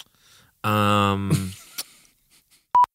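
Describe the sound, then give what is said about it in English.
A voice talks briefly, then after a pause a single short, loud, pure electronic censor bleep cuts in sharply near the end, covering a spoken name. “Cut that out. Beep that.”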